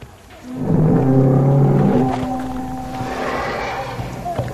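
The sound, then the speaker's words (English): A Parasaurolophus, a plant-eating duck-billed dinosaur, calls: a loud, deep, horn-like bellow with layered droning tones that swells in and holds for about three seconds, then fades into a softer, rougher rumble. “If you have 100 duckbills, 1,000 duckbills, facing the same direction, producing high decibel sounds, that's a wave of energy that could knock over a predator, or at least discombobulate it, scramble its brains.”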